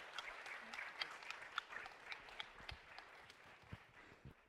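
Steady applause from a group giving a clap of encouragement to the first member about to share, dense overlapping claps with sharp individual hand strikes popping out, sustained at an even level throughout, no voices.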